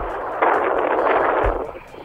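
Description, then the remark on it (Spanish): Wind buffets the microphone in a loud, steady roar of rushing noise with low rumbling thumps, easing off toward the end. No one speaks. “Qué viento, genial.”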